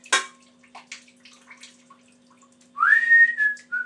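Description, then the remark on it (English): Loud, piercing whistling sweeps upward in pitch and then holds a steady tone for about a second, following a sharp knock and some faint clattering and rustling. “It's quite ear-piercing, the whistling, isn't it?”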